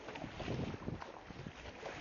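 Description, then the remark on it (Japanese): Paddle strokes pull through seawater just after launching over the waves onto the sea: a couple of splashy swishes over steady, rushing wind noise buffeting the microphone. No voices. “パドルが水を、海水をかぐ、漕ぐ音、聞こえますかね。”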